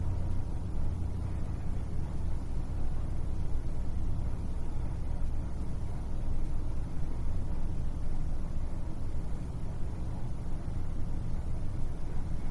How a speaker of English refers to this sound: Direct your attention to the sound of the air conditioning and the traffic outside.